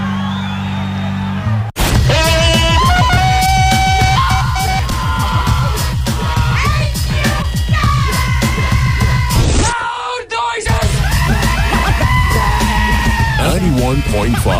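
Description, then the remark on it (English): Several people yell and scream together at full volume on the WMFO Tufts Freeform Radio broadcast, a loud, continuous jumble of raised voices with a brief pause partway through before the shouting resumes. “I don't know what we're yelling about!”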